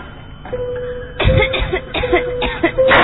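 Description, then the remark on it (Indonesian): A run of harsh, repeated coughs from an ill woman coughing continuously, fairly loud, following one another in quick succession over a faint steady tone in the background, with no talking. “Selain batuk terus menerus, ketahanan tubuhnya juga tak kunjung membaik.”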